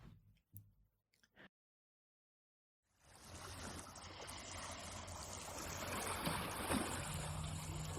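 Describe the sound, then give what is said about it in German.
Shallow harbor waves lap and wash continuously, fading in after a few brief knocks and a moment of silence, then swelling steadily louder with a faint low hum beneath. “Fast geräuschlos halten die Schiffsglocken der angetauten Boote im Hafen, dessen Läuten beinahe gänzlich von dem rhythmischen Schwappen der seichten Wellen übertönt wurde durch den Wind.”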